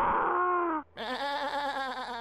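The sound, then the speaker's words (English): A person imitates a lion roar with two loud, strained vocal bursts. A short one is followed by a brief pause and then a longer, rougher growl. “I can also make a lion sound.”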